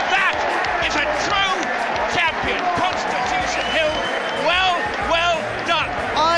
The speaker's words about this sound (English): This is the big one. And there's the cheer for the seven runners to come on their way. My goodness me.